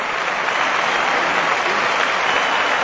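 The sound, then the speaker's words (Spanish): A large stadium crowd at El Molinón applauds steadily as substitute Juan Carlos Valerón comes on, a dense, sustained wash of clapping that stays loud and even throughout, with no pauses or voices standing out. “Vaya ovación del Molinón para Juan Carlos Valerón, que ya está jugando en la media punta.”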